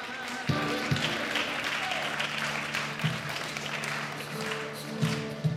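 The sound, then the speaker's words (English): A Hebrew Israelite audience at Temple Beth Shalom synagogue on Chicago's south side stands in their seats clapping together, a dense, steady wash of many hands with a few sharper accented claps, while sustained sung notes carry along underneath. “They stand in their seats clapping and singing.”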